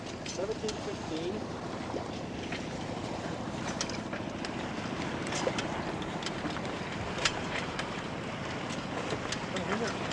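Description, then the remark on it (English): A boat's steady rumble as it comes up on the stern of another boat, under constant wind buffeting and rushing water, with occasional sharp splashes and faint, indistinct voices in the background. “This boat just coming up on our stern.”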